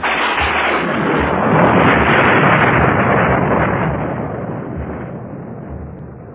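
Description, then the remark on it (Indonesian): Heavy rain pours down in a dense, steady roar, swelling slightly midway and then easing a little, with a deep rumbling undertone suggesting thunder. No voices are heard. “Wah, hujan turun amat deras”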